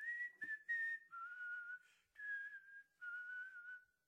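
Someone whistles the Happy Birthday melody, clear and steady, in four short phrases of gliding notes separated by brief pauses, with no talking.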